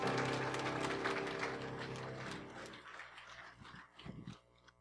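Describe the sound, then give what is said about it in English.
A crowd claps in a dense, sustained burst that gradually thins out and fades, with a low sustained musical tone underneath and a few scattered claps near the end. “Give him a hand for a clap.”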